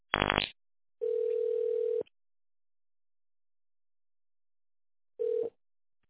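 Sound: telephone ringback tone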